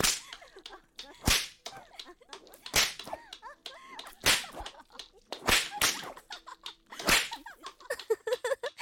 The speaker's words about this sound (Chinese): 大家不要留情啊，狠狠地用手中的鞭子教训这个没用的小贱货吧。